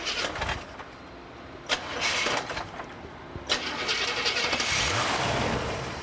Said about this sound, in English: a couple tries to start the engine of the silver 1975 Buick Regal he bought last year.